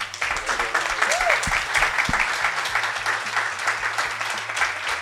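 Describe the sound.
A crowd breaks into sustained applause, a dense, steady wash of many hands clapping that fills the whole stretch at close range, with a few faint voices mixed beneath it.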